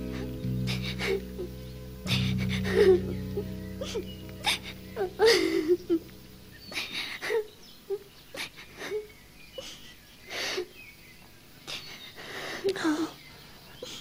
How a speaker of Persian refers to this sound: تو داری گریه میکنی، چی شده؟